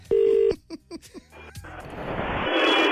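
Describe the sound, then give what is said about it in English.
A short, steady ringback tone sounds once over a phone line on an outgoing call to a McDonald's in Dundalk, followed by a few clicks and then rising line hiss and static, like a call connecting. “It's ringing.”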